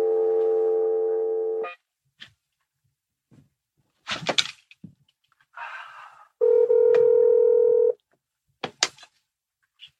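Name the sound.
telephone keypad button tones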